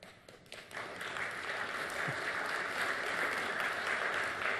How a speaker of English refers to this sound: You're only applauding because it sucked for so long. That's embarrassing, man. You should be like, finally, what took you?